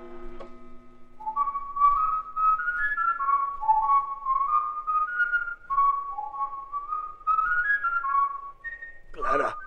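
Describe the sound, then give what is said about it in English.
A person downstairs whistles the tune Pop Goes the Weasel, a clear, lilting melody, the notes gliding and stepping from one pitch to the next with brief pauses, ending in a short burst of noise. “I thought I heard someone downstairs. It was whistling.”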